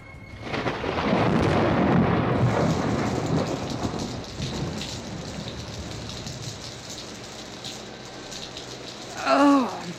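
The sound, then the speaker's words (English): Heavy rain pours down in a dense, steady hiss, with a deep rumble of thunder swelling at the start and fading, then a brief tonal squeal near the end. “Hello, switch off that rain, will you? My glasses are soaking.”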